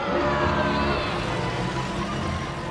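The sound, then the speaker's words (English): A Jeep engine rumbles steadily as it drives along, loud, with a continuous low drone and road noise that holds constant throughout. “So you're in your Jeep.”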